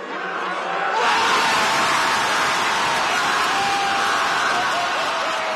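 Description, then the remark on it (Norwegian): A large crowd of President Yoon Suk-yeol's opponents outside South Korea's Constitutional Court, after the court removed him, bursts into a loud, joyful roar about a second in, the dense wall of cheering and shouting voices holding steady and unbroken to the end. “Et gledesbrøl fra president Jon Suk-yeol sine motstandere utenfor den sørkoreanske grunnlovsdomstolen.”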